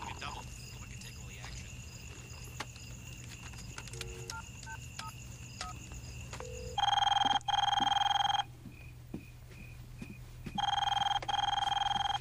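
A few short dial beeps, then a telephone rings in two loud double bursts, each pair a steady electronic trill, separated by a pause, over a faint constant hum.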